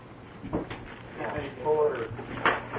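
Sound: door being opened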